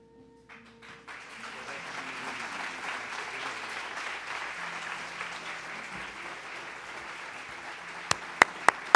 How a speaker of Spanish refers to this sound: Fuerte el aplauso, mis hermanos, agradecidos al Señor por todas sus bendiciones.